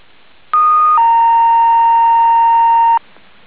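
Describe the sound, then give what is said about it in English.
A loud two-tone dispatch paging alert over a fire dispatch radio channel, an all call for staffing for the Pine Strawberry Fire District: a short, higher steady tone gives way to a longer, lower sustained tone, then cuts off into faint static, with no talking. “Would you like an all call for staffing at this time?”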